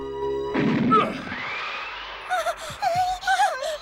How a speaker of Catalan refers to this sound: El soldat obre la porta d'un cop de peu.